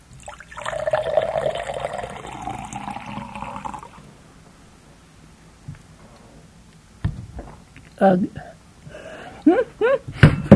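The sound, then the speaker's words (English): Water pours steadily into a glass for about three seconds, its gurgling pitch rising as the glass fills. After a quiet pause, people start talking. “Let me pour you a glass.”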